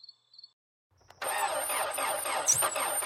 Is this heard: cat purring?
no